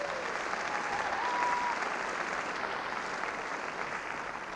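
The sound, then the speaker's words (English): A crowd applauds a performer after a song, a dense wash of clapping that holds at an even level for several seconds with no voices on top, tapering only slightly toward the end. “Give him another round of applause there.”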